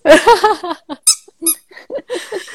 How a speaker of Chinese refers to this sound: 它现在为了各位观众，它拿了一只鸭子，它打算一边录节目一边玩鸭子给它家听，它要咬了。